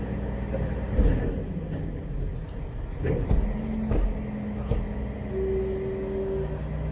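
garbage truck engine outside

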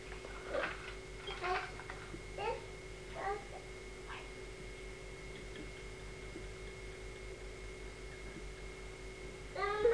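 baby babbling

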